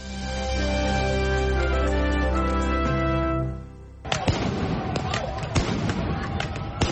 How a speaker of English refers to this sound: Police use flashbangs and pepper spray in an attempt to move protesters down the street in Seattle early Monday after the death of a black man in custody last month led to some of the biggest protests seen in the United States.